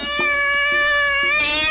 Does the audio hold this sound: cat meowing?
yes